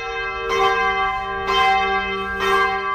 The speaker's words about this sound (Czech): U znak vaskršnje radosti na svim pravoslavnim hramovima tačno u ponoć oglasila su se zvona.